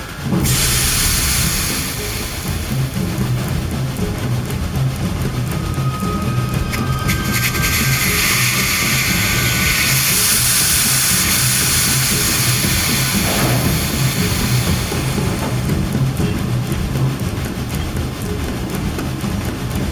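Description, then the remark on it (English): A loud, steady hiss of steam being let out from a steam locomotive with its brakes still engaged, continuous throughout, over a low rumbling mechanical drone with a brief higher whistling tone in the middle. “Brakes are still engaged. We need to check it out. Get the lanterns ready. I'll go let out the steam.”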